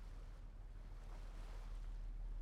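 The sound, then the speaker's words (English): Steady wash of ocean water against a cruise ship's hull, layered over the constant low hum of the cruise ship, with a broad hiss of wind and spray and no voices. “The relaxing sounds of the water. The humming of the cruise ship.”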